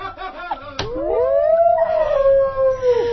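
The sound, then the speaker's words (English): A single long wolf howl rises smoothly, holds a steady mournful pitch for a couple of seconds, then drops away at the end. It is loud and heard alone, with no talking. “I bet he's howling at the moon now.”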